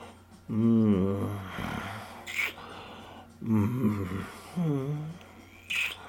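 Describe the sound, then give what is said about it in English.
A person imitates an animal's growl, making a few low, throaty growling sounds in separate bursts, fairly loud, with pitch sliding and wavering, and short breathy pauses between them. “I would love if you would kiss my neck in that husky whisper, a growl or two as well.”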